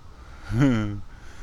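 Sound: mallard ducks quacking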